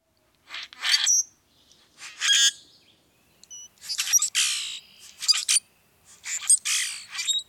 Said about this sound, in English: Common grackles are long-tailed, iridescent blackbirds whose croaks and whistles fill the air.